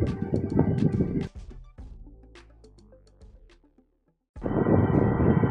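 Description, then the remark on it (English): A Tornado cooling fan buzzes loudly with a steady whirring drone and tonal hum, drops to a softer humming stretch, falls silent briefly, then roars back to full strength. “That annoying buzzing sound is actually keeping me cool right now.”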